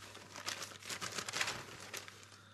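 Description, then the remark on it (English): A newspaper is rustled and crinkled in a run of quick, papery crackles and flaps, fairly quiet, with a faint steady hum underneath and no talking. “Give me that paper.”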